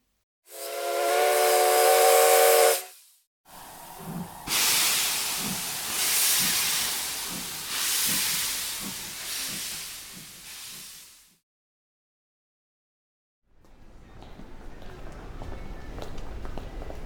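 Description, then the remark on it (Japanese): A steam train whistle blows a long, harmonic tone aboard a train crossing a national border into a neighboring country. Steam then hisses loudly in rhythmic chuffing bursts for several seconds. After a pause, quieter rumbling and a low voice follow. “しかし汽車の中で空気を読まずピストンセックスでもされるかと思いきや、そのようなこともなく普通に国境を越えて本当に隣国へ連れてこられるとは。”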